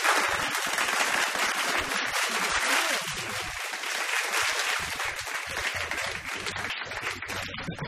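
Canned applause for Arnold O'Hanlon plays steadily for several seconds on the radio show Get This on Triple M, a dense, bright wash of clapping from a crowd that holds at an even level with no voices over it.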